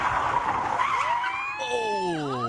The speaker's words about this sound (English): It's really just a, you know, you slam the brakes on, whip the wheel, and it whips the car around.